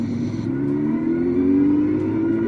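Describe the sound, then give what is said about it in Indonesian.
Motorcycle engines of five women riding big motorcycles in a row along the seafront in Tunis, Tunisia, on a sunny day rev steadily, a loud, continuous low rumble with rising harmonic whine as the throttle climbs, no voices over it. “Pada hari yang cerah dan di sepanjang tepi laut di ibu kota Tunisia, 5 perempuan masing-masing mengendarai sepeda motor mereka berderetan.”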